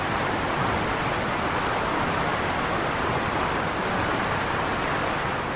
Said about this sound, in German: Nahe dem Haus tosen gewaltige Wassermassen in schäumenden Kaskaden dem Tal entgegen.